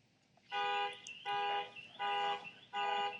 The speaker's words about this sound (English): That's the car alarm that we typically hear out here every Saturday.